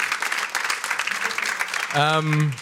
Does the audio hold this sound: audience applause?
yes